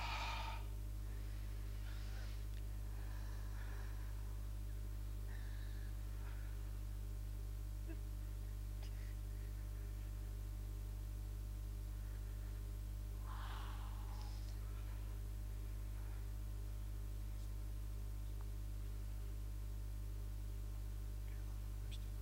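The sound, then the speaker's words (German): A few slow, deep breaths in and out by people, quiet and spread far apart, over a constant low electrical hum with no talking. “Und alle atmen.”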